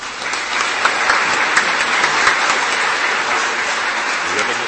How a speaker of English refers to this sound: I'd like to finally ask our musicians today to all stand for a last round of applause. Thank you.